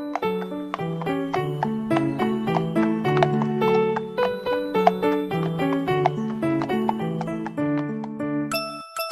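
Steady, rhythmic clip-clop of horse hooves trotting as horses hurry home to their stable, under a bright, bouncy musical melody, moderately loud and continuous, with a brief jingle near the end; no voices.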